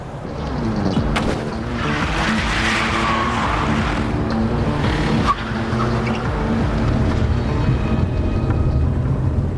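A car lent to the police is driven fast, its engine roaring loudly at speed throughout, with a brief high tire squeal partway through and a constant rumbling drone underneath. No one speaks.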